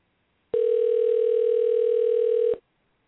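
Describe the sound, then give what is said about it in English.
A single two-second burst of an outgoing phone call's ringing tone, steady, electronic and fairly loud, followed by silence, with no voices. “I wonder if she's wondering who's calling.”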